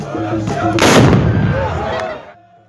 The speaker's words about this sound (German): Nach dem Verbrennen wird die Asche der Anlage mit Schießepulver, Salz und Schwefel vermischt und in die Kapsel gepackt, die unter dem Abzug platziert wird. Um beim Abfeuern eine laute Explosion zu verursachen.